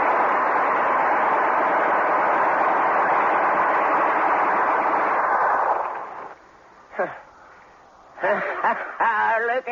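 A Gatling gun fires in a dense, unbroken roar of rapid shots for about six seconds, then cuts out, leaving quieter moments and brief voices talking.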